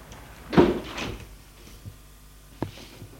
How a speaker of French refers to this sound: Il a fermé la porte.